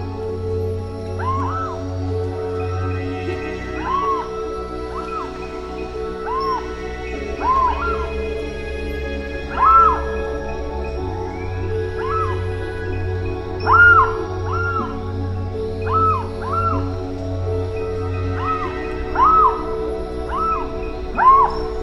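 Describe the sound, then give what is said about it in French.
A bird gives repeated sharp, harsh alarm cries, loud, in irregular bursts over a low steady droning background; it is a danger call given when someone approaches the bird too closely. “mais l'on peut aussi découvrir son cri, un cri de danger lorsque l'on s'approche un peu trop près de lui, la compagnie des hommes lui étant désagréable.”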